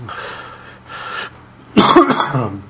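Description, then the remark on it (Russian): A person coughs despite having taken medicine to cough less: two softer, breathy coughs followed by a louder, harsher cough burst, with no talking in between. “Я, кстати, между прочим, когда брал паузу, выпил какой-то гадости, чтобы кашлять меньше, но что-то это не очень работает.”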